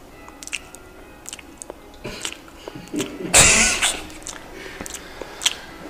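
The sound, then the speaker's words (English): Wet open-mouth chewing with repeated sharp smacking clicks in an irregular rhythm, swelling into a louder, sloppier burst midway before settling back to scattered smacks. “But yeah, chewing with the mouth opener, like smacking.”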